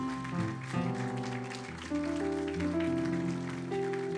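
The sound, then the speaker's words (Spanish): Steady crowd applause welcoming a friend from Indianápolis, from Yoluteca in southern Honduras: a dense crackling wash of many clapping hands beneath sustained music chords that shift a few times, with no one speaking. “Fuerte aplauso a mi amigo.”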